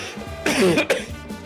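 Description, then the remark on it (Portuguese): A single harsh cough, made on purpose to be recorded, bursts out, followed by a short throaty rasp, standing alone over a faint background hum. “Não tossi o dia inteiro, vou gravar, tosse.”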